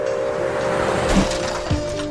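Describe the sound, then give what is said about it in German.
A car engine roars steadily as the driver floors the gas pedal, its pitch shifting as it revs up, with a brief squeal near the end as it speeds off. “Er drückt das Gaspedal durch und brettert davon.”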